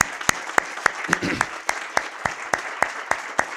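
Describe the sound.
An audience at an awards event applauds steadily for the mayor of San Miguel del Arroyo, who started the awards, with sharp, evenly spaced claps standing out above a dense wash of clapping, and a brief murmur of voice near the start.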